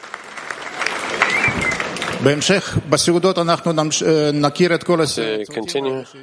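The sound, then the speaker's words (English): An audience breaks into dense, steady applause for the teams that served the lesson, lasting a couple of seconds, and then a voice begins speaking while the clapping fades underneath. “It's a round of applause for all of the teams that served the lesson.”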